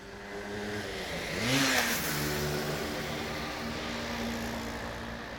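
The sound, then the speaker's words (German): Heavy evening rush-hour traffic of cars, buses and bicycles at the busy Ludgeri roundabout in Münster, Germany: a steady rumble of engines, with one vehicle revving loudly past early on before the dense hum settles back in. No voices. “Am Ludgeri-Kreisel in Münster ist immer richtig viel los. Eine Menge Autos, Busse und Fahrräder.”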